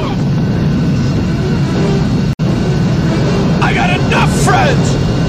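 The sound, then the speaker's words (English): A loud, steady jet engine roar fills the whole stretch, dense, broken only by a split-second dropout, as a man in a film scene is about to be sucked through the jet engine; brief high, wavering cries cut through it near the end. “John Amos just about to get sucked through a jet engine”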